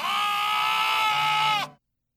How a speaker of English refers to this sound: I'm going to say B, a bleating lamb. A bleating lamb.